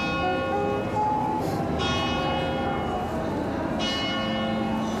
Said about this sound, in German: Ein Ausflug nach Mailand kann ja so entspannend sein. Durch die Straßen flanieren, den Musikanten lauschen oder dem sowieso unüberhörbaren Glockengeläut.